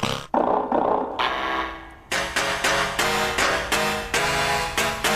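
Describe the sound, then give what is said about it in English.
Door springs struck with a hammer: a long, buzzing, roaring twang, then a rapid series of about eight sharp metallic hits, each ringing out with a bright, resonant, quickly fading tail. “Every one of these sounds is a door spring. It's a hammer.”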